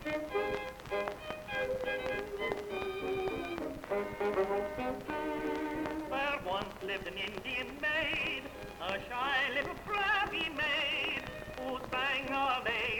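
An old phonograph record of a tenor singing with a wide, warbling vibrato over a brisk instrumental accompaniment, with a steady surface hiss throughout.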